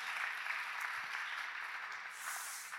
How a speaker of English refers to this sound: Let's give Kia one more round of applause for that video. That was amazing.